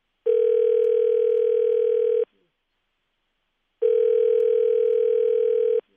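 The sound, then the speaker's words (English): Two long, steady telephone ring tones, each about two seconds, separated by a pause of silence, heard clearly through a phone line as a call is placed, with no one speaking. “Let's get him on the phone.”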